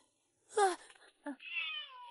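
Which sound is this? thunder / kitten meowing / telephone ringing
kitten meowing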